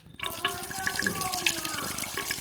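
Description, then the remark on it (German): Liquid pours steadily through a funnel with a filter into a 32-litre container, with a continuous splashing, gurgling rush, fairly loud for the whole stretch, with faint voices murmuring underneath. “Ja, Spritz. Ja. Ja, das ist zu doll. Ich muss es langsam machen, sonst ist das fast gleich in Rum getränkt.”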